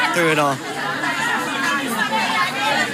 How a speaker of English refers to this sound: They are shouting. Here they're a little bit more... I don't know, feral, I would guess, as far as trying to get us to buy stuff. A lot more people are shouting at us to try and buy their stuff, like, buy my carrots.